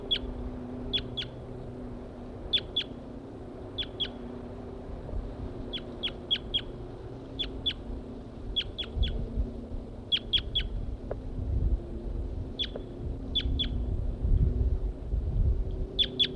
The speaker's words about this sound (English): I've located the birds again. This is a wild male.